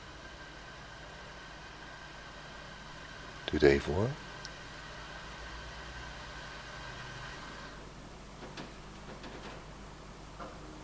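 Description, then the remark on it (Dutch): As the pipe organ is switched off with its key, its bellows claps shut with a single loud, dull thump and brief rattle, standing out over a steady low mechanical hum; afterward the hum drops away and a few faint clicks follow. “En die gaat de balg dicht. Daar hoor ik hem nog dichtklappen, let op.”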